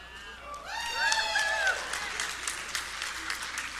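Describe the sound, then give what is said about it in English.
An audience bursts into applause and cheering, with dense steady clapping and a few whoops and shouted calls rising above it in the first couple of seconds. “They're in your corner. They're cheering for you, really.”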